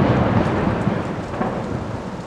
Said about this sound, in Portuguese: O tempo irou-se sem aviso. Adensadas, as nuvens de gás leve tornaram-se tenebrosa tempestade, e o lago esqueceu a calmaria, encrespando-se, açoitado pelo vento.